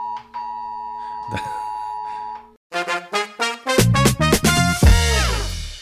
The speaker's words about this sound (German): So, nachdem wir jetzt 2 Minuten abgewartet haben, bis der Alarm, der Probealarm vorbei ist, nichts ist passiert, Waltrop steht noch,